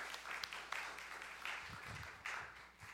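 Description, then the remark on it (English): A crowd applauds steadily for a few seconds, a dense wash of many hands clapping, fairly soft, with a brief low murmur partway through; an audience giving a round of applause. “Everyone, let's give Nolan a round of applause one more time.”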